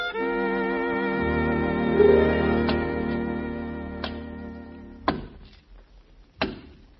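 Wood being chopped by a hired man: four sharp, hollow thunks land at uneven intervals, the last two loudest, over a steady, sustained musical drone with no one speaking.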